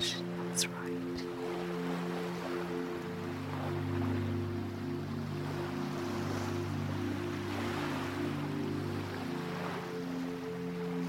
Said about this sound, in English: And you can hear the waves gently going in and out. In and out.